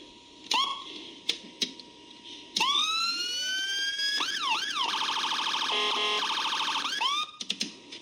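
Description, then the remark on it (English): A loud electronic emergency vehicle siren of about 100 watts, for fire trucks, ambulances and police cars, with a rigged volume control set one step up, runs through its modes: a few short chirps, rising wail sweeps, then a rapid high-pitched yelping warble, ending in quick blasts. No one talks. “You put it up all the way here to the top, yelp it one time or horn it one time, this thing vibrates your skull.”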